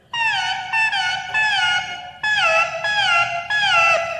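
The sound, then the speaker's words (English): A synthetic, buzzy tone from an electronic instrument warbles through short downward-sliding chirps, two bursts of three, imitating a little bird. It is loud, with no talking. “Little birdie.”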